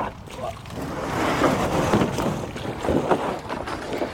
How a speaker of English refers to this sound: Okay. That's quite windy. It's very windy.